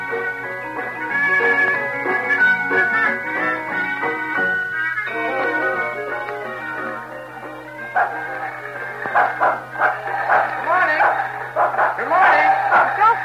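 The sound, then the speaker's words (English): A dog hitched to a lawnmower for gardening barks and yips excitedly in quick, repeated bursts, with a steady low mechanical hum running underneath and some busy background noise throughout. “Did you have to hitch that dog to the lawnmower?”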